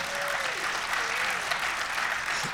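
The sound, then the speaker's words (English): An audience applauds a speaker steadily, a dense, even patter of many hands clapping at once that holds at full strength throughout, with a faint voice drifting underneath. “Let's give him a hand.”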